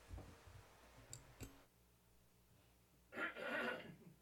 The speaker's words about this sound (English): There we go. Got it out. I have a cough.